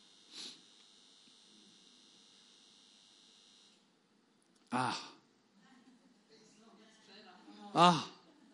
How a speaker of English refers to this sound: Okay, turn that light off. It is buzzing, isn't it? It's probably going through the thing there.